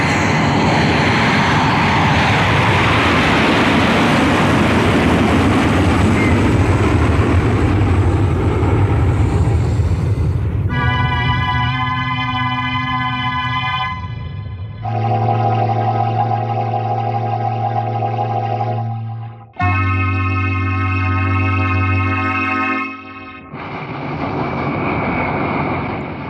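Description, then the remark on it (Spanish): Airplane engines roar loudly and steadily as the plane races down the runway and lifts its nose toward the sky on takeoff, filling the first half with a dense rushing noise before giving way to sustained, droning tonal hums. No voices are heard. “Levanta nariz rumbo al cielo con el estruendo de sus motores.”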